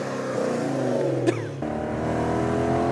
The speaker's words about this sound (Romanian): Băi, băiatule, cum se aude mașina.